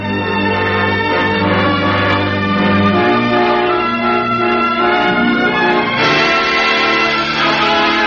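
Three sustained, bell-like NBC network chime notes ring out one after another, each held for a couple of seconds, clear and loud with no voices over them.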